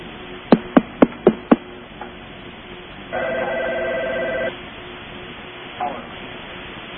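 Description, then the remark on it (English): A telephone rings once with a steady, buzzy electronic tone lasting over a second, preceded by five quick evenly spaced clicks, all heard through a thin, muffled line with no one speaking. “Go ahead and call. Phone, yeah. Yeah, pick it up and say hi.”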